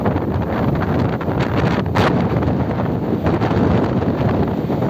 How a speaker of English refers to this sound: Look how windy it is, guys. Look at my fishing rod. That thing's gonna take off, man.